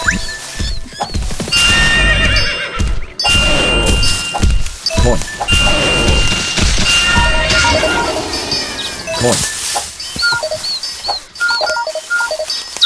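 Horses neigh and whinny repeatedly and loudly over a busy backdrop of clopping hooves and occasional thunks and small chiming dings.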